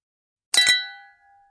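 Glasses clink together in a toast, a quick double tap followed by a bright ringing tone that fades away over about a second. Fairly loud, with no voices.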